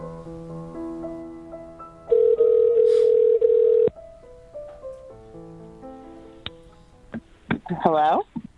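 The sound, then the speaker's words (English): A telephone ring tone sounds once during an outgoing call from Santa to a family, steady and fairly loud for about two seconds, over soft background music. A short warbling electronic sound follows near the end. “I'd be pretty blown away to find Santa on the other end of the phone, too.”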